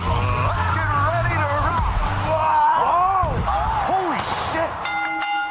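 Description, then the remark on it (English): A wrestling ring bell rings out clearly near the end, its bright tone ringing on after several seconds of loud, rowdy crowd yelling and shouting. “Can you please keep adding clips to that before the bell so it gets longer?”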